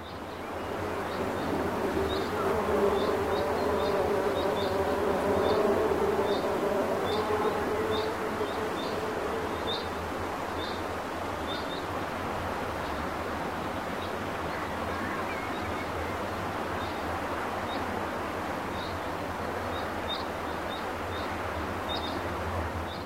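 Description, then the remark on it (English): Outdoor British countryside ambience: a steady low rumble with a droning, buzzing hum through the first half, while short high-pitched insect chirps repeat in a regular rhythm throughout. No one speaks. “The British countryside sounds like this.”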